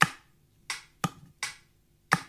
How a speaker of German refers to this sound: Deswegen klopfe ich das auf meine Ukulele.